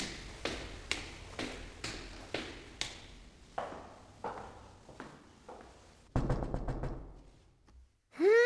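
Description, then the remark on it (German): Knocking on a door: a pizza delivery man climbs the stairs up to the seventh floor in a long, steady run of evenly spaced thudding footsteps, then knocks with a quick cluster of raps, and a short tonal sound closes it out. “Hat geklopft”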